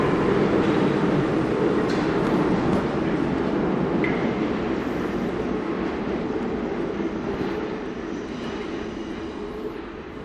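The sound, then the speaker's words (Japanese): A Metro Line 7 subway train rumbles steadily through Porte de la Villette station just after 9 a.m., a dense, continuous low roar with faint rattling and a brief high squeal, fading slightly toward the end with no voices. “地下鉄7番線を今降りました、ポルトデラビレッテという駅です。”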